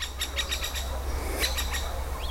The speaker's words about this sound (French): Écoute, dans ce petit bois, le chant mélodieux des oiseaux.